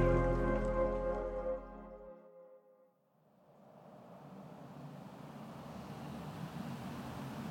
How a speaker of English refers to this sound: We're on the Williamsburg Bridge, stuck in traffic. Going nowhere fast. Here I am, sitting in a car